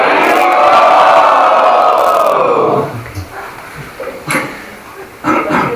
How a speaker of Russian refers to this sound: Кто хочет получить его милость, пожалуйста, поднимите руки вверх и громко крикните «Хари Бол».